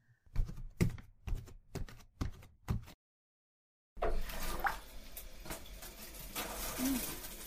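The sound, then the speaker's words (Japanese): A handful of sharp clicks and clatters, a brief pause, then a shower starts: steady hissing spray of running water that continues without a break to the end. “じゃあシャワーに行くぞ。”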